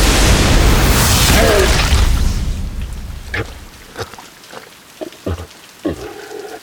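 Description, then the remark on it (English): A loud, crackling lightning blast from Thor's glowing hammer roars up at once and fades over a couple of seconds, followed by a few scattered sharp pops and clicks in near silence. “Thor's hammer glowed bright, brighter than ever before. Lightning flashed forth from it.”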